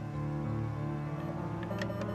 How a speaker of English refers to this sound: A 24-hour bank teller machine. I heard the sounds of the keys, of the buttons on the machine.